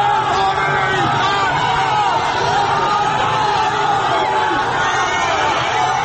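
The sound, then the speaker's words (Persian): A loud, dense crowd of many voices shouts and chants slogans continuously in a street protest, overlapping cries and yells rising and falling throughout with no pause; the frightened crowd chants while opening a way to flee in a street full of smoke and tear gas. “خودش را در حلقه جمعیتی می‌بیند که هراسان هم شعار می‌دهند و هم راهی برای فرار باز می‌کنند.”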